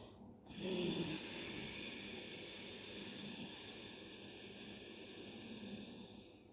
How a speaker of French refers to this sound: À l'expiration, par le nez, soufflez en réduisant le robinet glottique, c'est-à-dire en réduisant le débit d'air au niveau du larynx. On entend de cette façon un petit bruit comme celui d'un toussotement. Ça donne un peu ça.